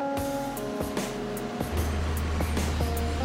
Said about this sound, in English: This industrial dryer spins the coal at high speed until excess water is removed.